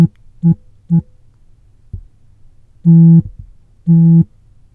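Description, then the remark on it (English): Morse code beeps previewed from a phone held to the mic: two short tones followed by two longer ones, each a buzzy low-pitched beep separated by brief pauses, fairly loud with no talking. “Morse code, when you double tap the screen, preview button. Let's preview this one. So I'm going to hold the phone again to the mic.”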